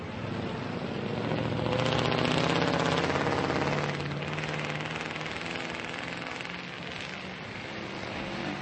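street traffic

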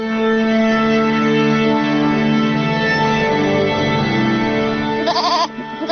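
goats bleating

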